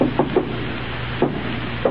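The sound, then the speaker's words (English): Knocking on a wooden door: a quick run of three raps, then two more spaced-out knocks, moderately loud against a low steady background hum. “Who's out there? Who's at that door, or I'll shoot.”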